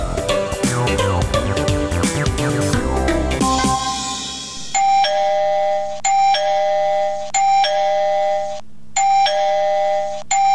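A brief burst of music gives way to an electronic gate doorbell being pressed again and again, each ring a bright, sustained tone that stops abruptly and repeats about every second and a half, loud and with no voices.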